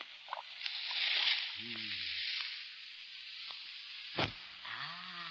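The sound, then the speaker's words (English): A loud, steady fizzing and sizzling hiss as a white powder dropped into a kettle of boiling water explodes, with low gurgling bubbles and a sharp burst near the end. “It explodes in the boiling water.”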